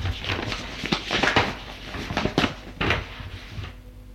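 Someone rummages through a writing desk (secrétaire) for papers to sign a lease: a run of irregular wooden knocks and clatters mixed with papery rustling, with louder clunks scattered throughout and no voices.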